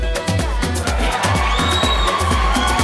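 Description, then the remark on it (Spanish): A loud crowd cheers and whoops with applause at the opening of the live Saturday-night dance show Music Box, layered over a steady, thumping dance beat that pulses throughout the short burst. “Oh, hay aplausos y todo.”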